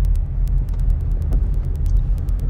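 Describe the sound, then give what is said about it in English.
Steady, heavy low rumble of a car moving in traffic on a highway in Houston, heard from inside the cabin, with an accident ahead, faint repeated clicking over the road noise and no one talking. “I'm about to embark on this nice traffic, and oh, look, an accident.”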